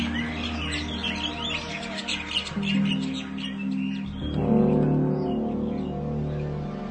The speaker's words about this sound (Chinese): 从他们身后的树林传来咯咯的一声鸟叫，几小时以来的寂静给打破了，使他们吃了一惊。接着又有另一只鸟附和了一声，他们此起彼落的，更多的鸟唱起来了，顷刻间到处都是小鸟的歌声。现在夜已经过去，是真正的清晨了。